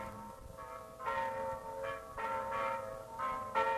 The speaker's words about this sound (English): Bronislav cared very much for Elisabetta, so a few weeks later, the bells of the little church proclaimed them man and wife.